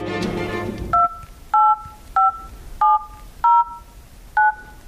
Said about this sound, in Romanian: Haide, te rog, mai fă numărul o dată. Hai, fă.